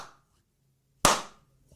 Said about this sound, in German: Langsam und ironisch im Hintergrund. Meint aber genau das Gegenteil. Aber wenn ich von etwas begeistert bin, dann klatsche ich doch nicht. Das ist so ein Bösewicht-Klatschen.